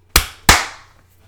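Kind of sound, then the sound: human body sound, two hand claps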